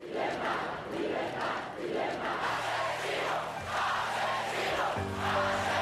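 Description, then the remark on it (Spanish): A large crowd in Spain chants "¡Libertad!" in the streets, demanding the release of Miguel Ángel Blanco, loud rhythmic shouts repeating about once a second, with steady sustained tones rising over the roar toward the end. “Durante la propia tarde-noche del día 10 y a lo largo del día 11, el grito que protagoniza las calles es ¡Libertad!”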